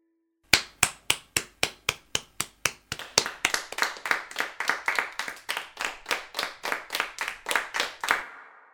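A single pair of hands claps in a steady, even rhythm, roughly two dozen sharp, loud claps that quicken slightly toward the end before stopping, with no voices.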